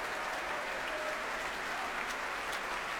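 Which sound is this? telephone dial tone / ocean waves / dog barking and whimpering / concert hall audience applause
concert hall audience applause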